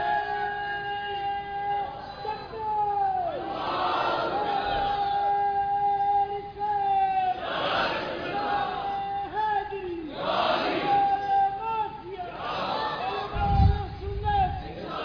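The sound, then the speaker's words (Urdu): A crowd at a Sunni religious gathering (jalsa) chants a slogan in loud call-and-response bursts, a sustained voice leading before the many voices answer in roaring swells, repeating about four times at a steady rhythm. “یہ چند زبانیں خاموش ہیں, ذرا کوئی ایک اچھا نعرہ لگائیں تاکہ سب کے اندر بیداری پیدا ہو.”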